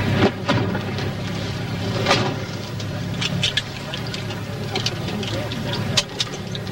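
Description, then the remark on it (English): Muffled clicks and thumps of car doors as two people get into a car and settle into the seats, with rustling and shuffling over a steady low rumble; faint indistinct voices murmur in the background. “The two get into Skip's car.”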